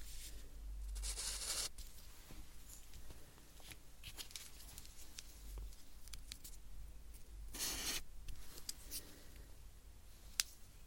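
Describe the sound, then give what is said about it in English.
Marker pens, one thick and one thin, squeak and scratch across paper in short strokes, with a few longer rubbing passes and small taps between them; no one speaks. “So I'm going to get the paper and I'm going to write one on your side with thicker, one on another with thinner.”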